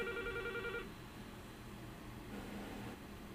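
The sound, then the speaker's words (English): A telephone rings with a short electronic trill lasting under a second, then cuts off, leaving only a steady low background hum and hiss with no voices. “Did I get the, oh, still ringing?”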